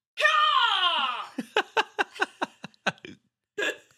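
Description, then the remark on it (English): A voice imitates Howard Dean's wild, strained campaign-rally yell: one loud, long shout that slides downward in pitch, then breaks into a run of choppy, rhythmic laughs and a final short burst. “And he just kind of like shouted like a madman, and that clip went viral.”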